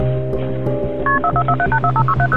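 Touch-tone telephone keypad dialing 911 to ask for paramedics at a home in Milledgeville, Georgia, on May 12, 2019: a quick run of about a dozen short, bright two-note beeps in an uneven rhythm, playing over a steady low electrical hum, with no voices.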